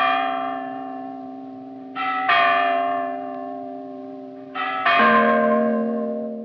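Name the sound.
church bells ringing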